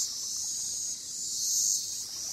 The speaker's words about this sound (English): I've always loved the sound of insects. I just think there's something quite amazing about something that's so small that emits such a powerful call, and variety of call, and they all have these cyclical patterns in their calls.